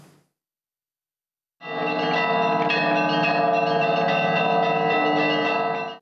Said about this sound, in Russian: Лучшие звонари из разных регионов России и ближнего зарубежья исполнили свои композиции на 18 исторических колоколах монастыря, которые были возвращены из Гарвардского университета 10 лет назад